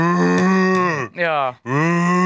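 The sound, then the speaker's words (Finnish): A loud, drawn-out moo of cattle being slaughtered, a death rattle: a low groaning bellow broken by two brief dips into three sustained parts with a steady, rich tone, heard alone without talk. “Se niin kuin kuolon korina kuuluisi siinä jauhelin.”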